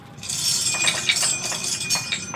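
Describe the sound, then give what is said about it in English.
A handful of nine damage dice clatter down through a pipe dice tower during a tabletop game, a dense run of bright, hard clicks and rattles lasting a couple of seconds with a few sharper knocks near the end. “And we got the good old pipe dice tower here.”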